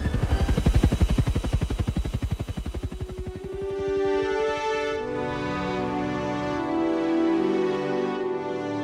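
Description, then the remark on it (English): An evacuation helicopter's rotors beat in a fast, heavy thumping pulse as it climbs away, then the chopping gives way to a steady, loud turbine roar with a droning whine. “he shouted back over the thumping of the big rotors”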